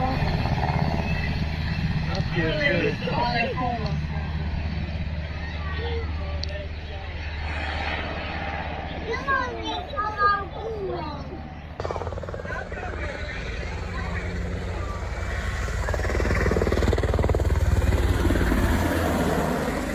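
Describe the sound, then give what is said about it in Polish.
A Black Hawk military helicopter flies over as the main attraction of an event, its heavy, steady rotor and engine drone filling the scene, rumbling loudly in the low end and swelling toward the end, with indistinct voices and crowd chatter beneath it. “Koniec, główną atrakcją miał być właśnie teraz przelot. Chyba żałujesz. Przelot tego Black Hawka.”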